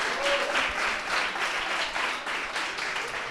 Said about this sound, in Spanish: Bueno, pues sí, si te parece, vamos despidiendo a estos maravillosos alumnos que... No, sin un aplauso. Sí, por supuesto, por supuesto. Un fuerte aplauso para ellos, muchísimas gracias.